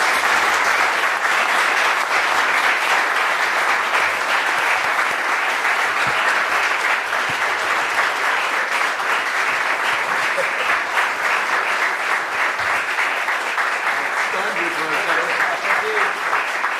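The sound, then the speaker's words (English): An audience applauds the candidates at the end of a city election forum held by the Central Arkansas Library System, League of Women Voters, American Association of University Women and KUAR, a steady, loud round of clapping without letup, with a few faint voices and cheers rising near the end. “Please give these candidates a round of applause.”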